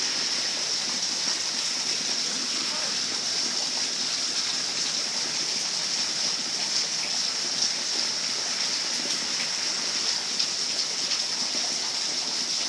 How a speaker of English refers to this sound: think the rain is letting up, but boy, it sure...